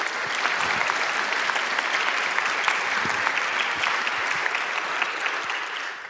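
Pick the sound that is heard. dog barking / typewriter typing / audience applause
audience applause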